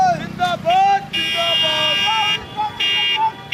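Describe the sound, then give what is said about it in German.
Car horns honk in loud, sustained blasts over a noisy crowd of supporters in India, with excited voices shouting and cheering as Rahul Gandhi's car moves slowly through the throng on his campaign tour, security staff struggling to clear its way. “Als Gandhis Auto sich nähert, wird es umringt von Anhängern.”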